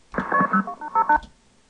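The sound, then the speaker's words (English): A quick run of touch-tone dialing beeps from an incoming phone number being played back to decode it, about seven short dual-pitched tones fired off in rapid succession, clear and fairly loud, with no talking over them. “Well, the easiest way to decode it for me nowadays is to just play it over and over and listen to the tones like this.”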